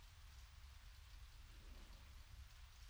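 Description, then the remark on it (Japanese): Steady rain falls continuously, a dense even hiss with soft low rumble beneath, fairly loud, with no voices. “雨の音、気持ちいいね。”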